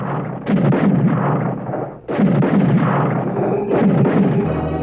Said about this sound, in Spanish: Paolo Pasolí da la orden de ataque y junto con Hugo Branco y los 10 guardias abren fuego contra la barraca donde están Gordon, Alexis y el pequeño Solín. Están disparando.